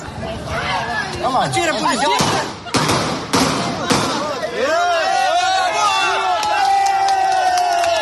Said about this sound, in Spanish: Y le aplauden. O sea, allí mismo se lo carga, ¿eh? 25 segundos.